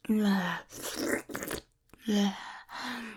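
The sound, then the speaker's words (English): Close, wet slurping noises in two short noisy bursts, set between low humming groans from a voice that seems to be imitating the sound. No clear words. “Me slurping.”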